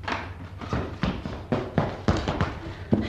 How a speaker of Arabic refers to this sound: وبينما الأميرة في مخدعها إذ سمعت ضجة وجلبة وأصواتا مقتربة ووقع أقدام تسرع إليها، وفتح الباب عليها.